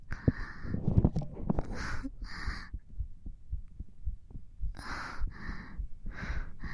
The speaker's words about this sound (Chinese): 是不是都听到姐姐的心跳了呢？